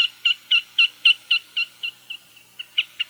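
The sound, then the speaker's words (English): A common snipe calls in a steady series of sharp, high notes, about a dozen in quick rhythm, dipping fainter midway and then strengthening again, heard alone. “The sound of the common snipe is a familiar one in Midwestern wetlands.”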